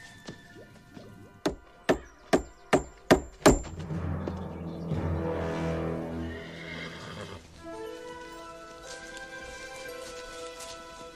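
Six sharp, evenly spaced hoof clops ring out, then a horse lets out a long, loud whinny that trails off, followed by softer snorting and stirring, on a hot day.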